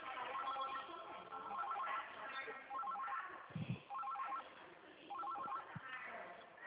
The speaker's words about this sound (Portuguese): Menina, o telefone aqui não para.